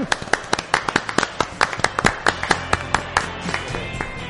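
A small group applauds at a Capital Radio program, with sharp, uneven handclaps that overlap in a loose, steady patter for a few seconds. The clapping is fairly loud and there is no talking over it.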